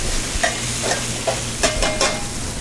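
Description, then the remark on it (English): Gnocchi sizzle in sage butter as a steady frying hiss, broken by a handful of soft clinks and scrapes from tossing the pan every half second or so. No one speaks. “I'm going to toss these in that nice sage butter.”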